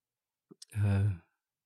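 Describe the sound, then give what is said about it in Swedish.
A person lets out a single drawn-out, voiced yawn, preceded by a couple of small mouth clicks, then silence. “Det är så tråkigt jag pratar om, så jag gäspar själv.”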